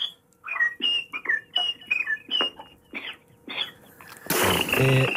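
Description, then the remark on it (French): A person whistles a short, bouncy Coco Chanel advertising jingle melody, a quick run of clear pitched notes with brief gaps, cut off at the end by a loud burst of rough noise. “Mais je vais siffler, si vous voulez, les publicités de Coco Chanel.”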